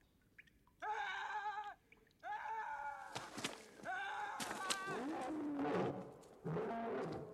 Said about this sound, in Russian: Где это кричат, Ватсон? По-моему, в той стороне. Нет, это там. Это собака.